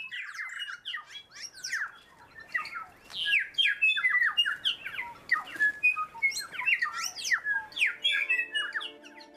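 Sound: birdsong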